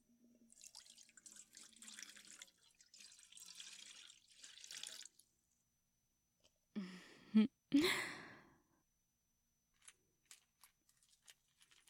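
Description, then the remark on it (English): Water pours into a water dish in a steady splashing stream for several seconds, then a pause, a couple of louder sloshing splashes, and a few faint drips at the end. No one speaks. “I'll pour this into your bowl.”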